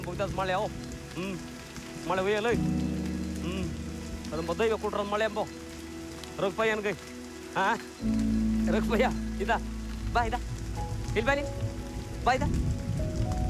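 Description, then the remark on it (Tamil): Steady rain hisses throughout, a continuous soft patter beneath louder voices and drawn-out vocal tones, with a deeper rumble joining partway through. “மழை தூர்றத பார்த்து காட்டு நாயகன் எந்திரிக்கிறாரு.”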